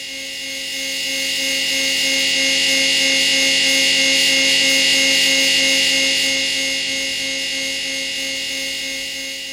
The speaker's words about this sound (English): which is basically the buzz of an electric chair. It is it is terrifying.